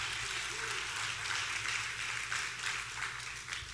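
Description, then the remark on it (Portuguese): An audience at an afternoon church service applauds God steadily, a dense, continuous wash of many hands clapping at once, moderately loud and sustained throughout with a low hum underneath and no talking. “Aplaude a ele, pois ele está aqui nessa tarde.”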